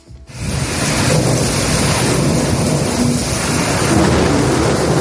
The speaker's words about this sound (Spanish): Me quedo corto con los truenos que hemos escuchado hace un rato desde la emisora de Sevilla, que parecían aviones rompiendo la barrera del sonido.